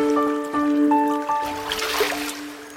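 A boat crosses a river, with gentle sloshing and splashing that swells toward the end, over a steady bed of soft background music. No one speaks.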